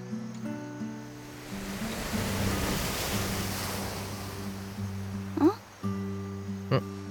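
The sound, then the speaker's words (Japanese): A soft wash of surf swells and recedes over a few seconds, with a steady low droning tone running beneath it and a couple of brief sharp sounds near the end. “あ、いや、何かが波に乗って流れてきた。”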